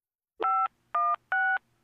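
telephone keypad dialing tones

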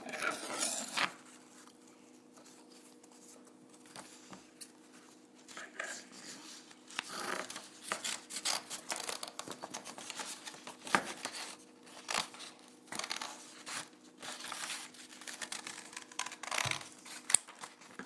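scissors cutting

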